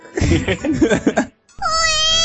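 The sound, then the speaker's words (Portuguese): A cat biting the microphone meows loudly and close to it: one long, wavering meow, then a short pause before a second drawn-out, steady-pitched meow. No one speaks. “Nossa, o gato tá mordendo meu microfone.”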